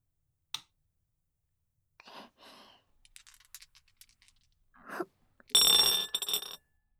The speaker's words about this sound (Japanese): じゃあテープレコーダーの録音ボタンを押したら、そうですね、ゲームのルールに従ってサイコロから振り始めますね。